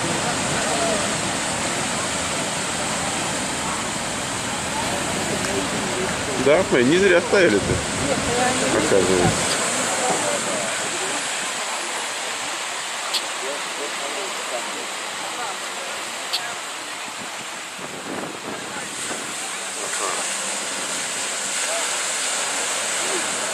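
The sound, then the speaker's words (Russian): Steady roar of ocean surf washing onto the shore of a coast, a loud continuous hiss with swells rising and falling, with some people riding the waves. A man speaks briefly over the waves early on. “А вот есть волна, смотрите, что творится.”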